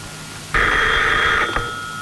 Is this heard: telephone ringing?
yes